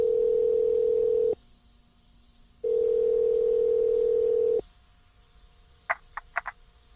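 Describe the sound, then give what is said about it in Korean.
Ringback tone of an outgoing phone call to an inn about a job advertisement: a steady, mid-pitched hum sounds twice with a silent gap between, then several quick, crackly bursts follow near the end. No one speaks. “난 곧바로 전화를 걸었다.”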